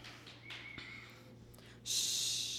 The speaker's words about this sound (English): It's quiet. And all I can hear is my breathing, the breath that has been with me from the beginning of time.